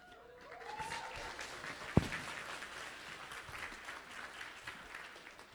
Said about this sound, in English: So just short remarks, Manila has been amazing. Let's put a hand of applause to Manila.